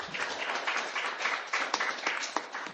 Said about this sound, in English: Give yourselves a round of applause for being in the crowd tonight.